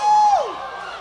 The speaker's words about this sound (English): I hear you make a little noise on this. Try go give us a little bit of a hoot one time. Just a little bit of woo!